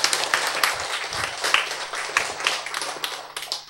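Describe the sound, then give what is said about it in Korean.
A crowd claps steadily, many overlapping sharp hand claps forming a dense, fairly loud patter throughout, with a low steady hum underneath and no voices. “박수 치는 선택이 있고, 박수 안 치는 선택이 있고.”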